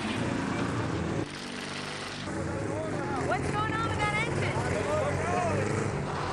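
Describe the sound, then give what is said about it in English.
A bulldozer's heavy diesel engine rumbles loudly and strains as it breaks down, dipping briefly before roaring again under labored revving, with voices faintly audible beneath the noise. “Could it be that both teams have a dozer dilemma? I think it lost an engine.”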